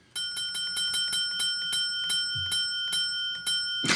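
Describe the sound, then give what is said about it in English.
A small bell dings over and over in a quick, steady rhythm, about a dozen bright, ringing strikes that overlap slightly, with no voices. “the bell on Better Call Saul that you have now lost the ability to speak, and you're just dinging yes, yes, yes”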